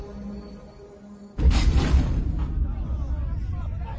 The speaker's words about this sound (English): The war machine totters just for a second, and then, like a great tree after a lumberjack calls, "Timber!" it tumbles through the air and smashes into the ground with a gruesome shudder. It will not rise again.